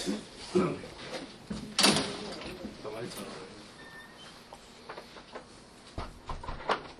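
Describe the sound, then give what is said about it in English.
Several loud, sharp knocks on a door by police, scattered irregularly, with muffled voices and movement in the background between the blows. “Door knocking in.”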